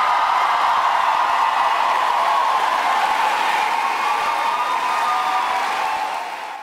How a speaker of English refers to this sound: Crowd really getting into it last night in La Crosse, Wisconsin, as Vice President Harris was there.